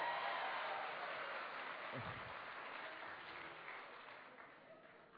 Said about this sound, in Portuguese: Eu acho que as palmas diminuíram